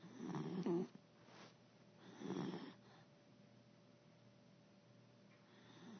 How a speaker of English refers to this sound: When they are snoring.